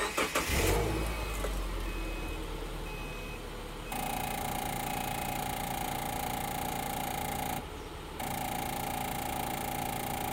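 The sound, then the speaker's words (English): A car engine cranks and turns over, then settles into a steady idle; partway through, a sustained high whine or tone joins the running engine and continues to the end. “All right, so just to give you a little idea of what I get to experience every time I start my car, listen to this.”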